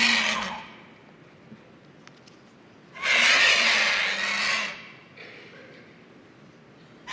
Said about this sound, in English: I have an audio clip of a vulture